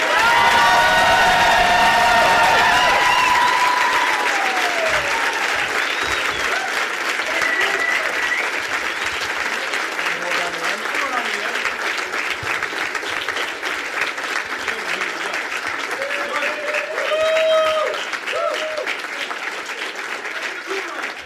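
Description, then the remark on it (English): A crowd claps steadily for about twenty seconds as performers are welcomed, loud and dense, with whoops, cheers and scattered shouts rising over the applause and a final swell of yelling near the end. “Please give a big warm welcome to my friends”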